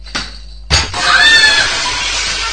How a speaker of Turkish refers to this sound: Ya of ya, yine aynı şey yapıyorsunuz. Eyvah, cam kırıldı. Lütfen ortalığı toplayın.